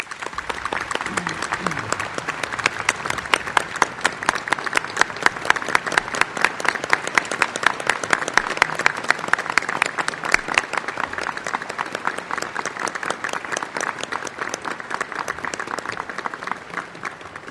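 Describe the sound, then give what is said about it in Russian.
A large audience at a formal ceremonial evening applauds steadily for the whole stretch, in approval of the election of the evening's honorary presidium: a dense wash of clapping that settles into a loose rhythmic beat, with no speech over it. “Товарищи, разрешите ваши аплодисменты считать единодушным одобрением избрания почетного президиума нашего торжественного вечера.”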